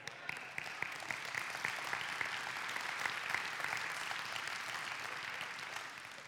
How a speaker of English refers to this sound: That's worth a better clap than that.